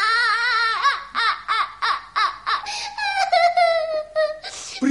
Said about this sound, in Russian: Почему вы плачете? Вам помочь? Кто вас обидел?